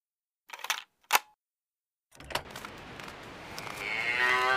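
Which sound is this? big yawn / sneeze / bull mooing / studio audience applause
bull mooing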